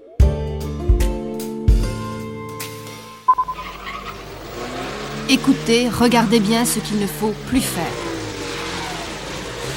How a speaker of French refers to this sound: Les accélérations intempestives, souvent inutiles, suivi de coups de frein, entraîne une consommation d'essence excessive.